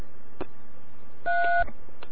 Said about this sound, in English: So you'll send a tone to the repeater, and then you'll actually dial the tones. Now here's like a 3.